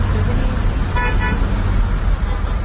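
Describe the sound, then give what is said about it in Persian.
Loud, steady rumble of quarantine vehicles driving by in Qom, Iran, during the coronavirus outbreak, with a short horn honk near the middle cutting through the traffic noise. “اینم ماشینای قرنطینه.”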